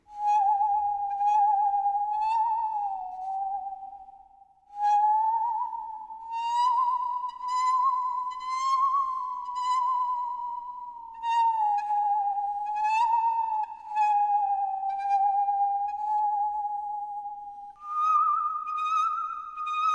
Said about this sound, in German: Achtung, ich schnapp mir bloß einen Geigenbogen, biege die Säge ein wenig in Form und schon süngt meine Säge einen gar schön schauerlichen Süngsäggesang.